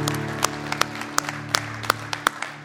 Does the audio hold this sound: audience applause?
yes